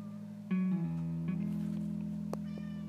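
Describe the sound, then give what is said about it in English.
A cat meows indoors in a drawn-out, wavering cry that starts abruptly and holds for a couple of seconds, with no one speaking over it. “And sorry about that, my cat's in here.”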